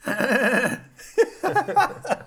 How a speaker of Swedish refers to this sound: Hästljud? Bandinspelare.